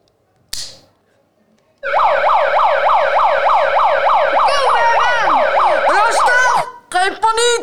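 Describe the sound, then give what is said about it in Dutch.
A loud rescue brigade boat siren blares in fast, repeating up-and-down yelps for several seconds, steady, with a brief voice cutting in near the end. “Ik kom richting de boot van de reddingsbrigade.”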